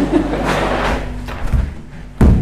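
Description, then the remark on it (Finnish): A door shuts with a heavy thud near the end, following a couple of seconds of dull rumbling and shuffling movement, closing out the freezing cold outside from a warm storage room. “Pakkanen jää oven taakse.”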